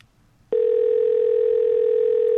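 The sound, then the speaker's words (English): A steady electronic ringing tone on a phone line calling a payphone starts after a brief quiet moment and holds loud and unbroken to the end, with no one picking up and no voices. “Okay, I don't think anybody's picking up.”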